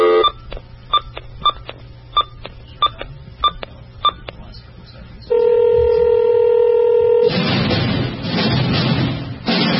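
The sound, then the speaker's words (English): A quick, evenly spaced run of about eight touch-tone dialing beeps as a phone call is placed, followed by a steady held phone tone and then a burst of loud hissing static. No one speaks. “He knows we have to phone him, so he should not be on the phone”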